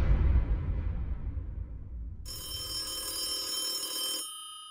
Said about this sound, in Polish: Dźwięk telefonu, który rozbrzmiał w jednym z pomieszczeń na komisariacie w Corning, wyrwał pracujących nad materiałami dowodowymi mężczyzn ze skupienia.